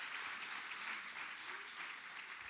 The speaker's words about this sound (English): Let's give God a big hand clap for that.